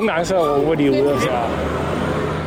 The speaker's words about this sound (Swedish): Och när bussarna börjar glida in till hållplatsen så är det en del chaufförer som ropar vad det är för bussnummer